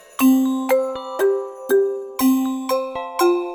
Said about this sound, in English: Metal instruments. Bells and cymbals, cymbals, glockenspiel.